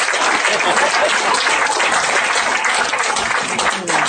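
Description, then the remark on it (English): A crowd breaks into steady, loud applause, dense overlapping hand claps sustained evenly for several seconds before tapering off abruptly at the end. “Since I got the clap out of you, see, now I can challenge you one more time.”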